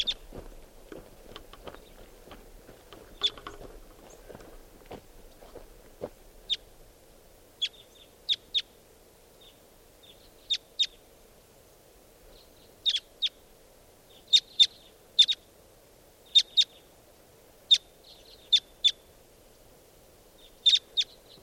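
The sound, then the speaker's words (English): Sharp, high-pitched calls of two wild birds sitting close together in a treetop, drawn closer by a playback of their call, ring out in short bursts, often in quick pairs or triplets, spaced irregularly over a soft steady hum. No one speaks. “I just did a playback of that call and got the birds closer, and I'm going to try to record again.”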